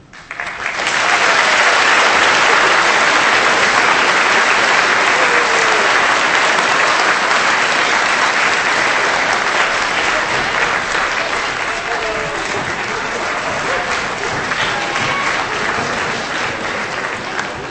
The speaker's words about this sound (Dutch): Nou, dat is prachtig gelukt. Dus een welverdiend applaus.